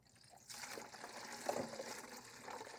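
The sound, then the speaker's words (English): Muddy water pours out of a container in a steady splashing stream that begins after a brief quiet moment and continues to the end, with no voices. “And we've got to pour all this stuff out.”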